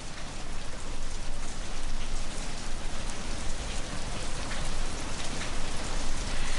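Steady rain falls continuously, a dense, even hiss of drops pattering on a surface, consistently loud throughout with no voices.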